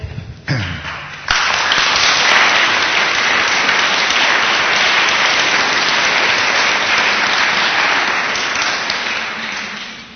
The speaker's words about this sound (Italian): Grazie per l'incoraggiamento dell'applauso che mi è utile, perché nonostante è un argomento che io diciamo conosco da tanto tempo, ogni volta che si parla in pubblico c'è una certa emozione.